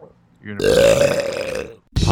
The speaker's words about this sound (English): Hold for a burp.